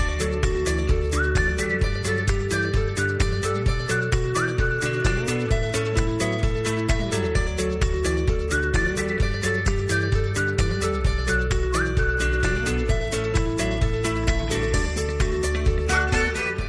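A whistled melody rides over a full, steady musical backing with a driving beat, the tune rising and falling in clear phrases and staying loud throughout with no talking.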